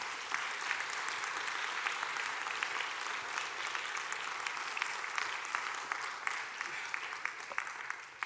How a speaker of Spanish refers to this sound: Aleluya, Cristo venció el poder de la muerte. Dale un aplauso, por favor.